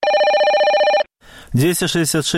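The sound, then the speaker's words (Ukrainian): A loud telephone bell of an answering-machine line in Minsk trills rapidly for about a second, then cuts off; after a short pause a person begins speaking. “Телефон аутоотказник у Менску працуе без перапынков.”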